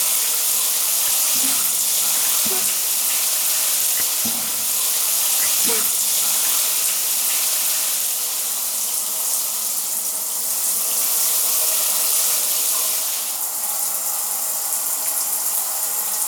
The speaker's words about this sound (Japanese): はい、旦那様の頭をシャワーで綺麗にゆすぎ終わりましたよ。